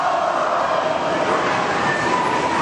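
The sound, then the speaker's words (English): The Mitchell student body stamping on bleachers at a volleyball match against the Huron Tigers in set two: a loud, steady roar, a dense rumbling thunder that holds without a break, with a faint wash of crowd voices mixed into the din. “Mitchell Studenbody making a lot of noise, stamping on the bleachers.”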